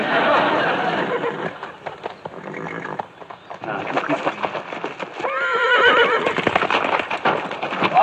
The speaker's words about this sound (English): Horses?